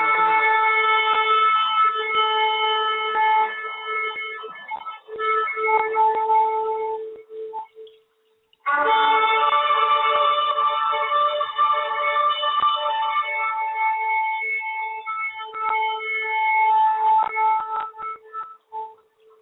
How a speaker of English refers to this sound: So we want to open it up correct. You know what I'm saying? We want to open it up correct with some shofar blast. That's what we want to do. We want to crank it up.